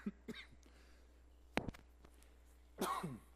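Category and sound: human body sound, coughing into microphone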